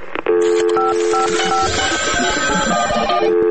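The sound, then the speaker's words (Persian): A rapid series of electronic telephone keypad tones, each beep a distinct dual pitch, dialed in quick succession for Radio Farda's answering-machine line, over a steady background hum, fairly loud. “شماره یه تلفن پیامگیر رادیو فرداست.”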